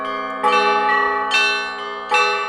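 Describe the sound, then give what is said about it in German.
Church bells peal in a church bell tower in Darmstadt, Germany, rung by an audience member who is teaching himself to ring them; several overlapping strikes at irregular intervals with long, ringing harmonic overtones sustaining between hits, loud, with no voices. “Martin Schaar klettert in den Glockenturm und zeigt, was er schon gelernt hat.”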